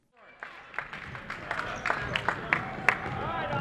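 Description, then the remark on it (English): A crowd of about 80 people cheers and chatters while sharp squeaks and thumps ring out every fraction of a second, likely sneakers and a bouncing ball on a hardwood court. This is a Saturday morning Urbana Park District Youth Basketball League game between the Tigers and Jaguars at Brookins Gym. “About 80 people are cheering on either the Tigers or Jaguars.”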